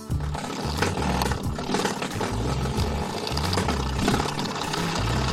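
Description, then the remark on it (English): A cat batting a spring doorstop, producing a loud, continuous buzzing twang with rapid low throbbing pulses that sounds almost like a revving engine, lasting the whole clip with no voices. “Nope, it's a cat playing with a doorstop.”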